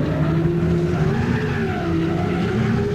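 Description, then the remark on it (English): A car engine roars as it's gunned hard in a blizzard, stuck in deep snow halfway up a mountain, its pitch climbing and wavering, while tires squeal and spin beneath it for several seconds, loud with no one talking. “Next thing you know, you're smelling carbon monoxide, and I'm gunning it.”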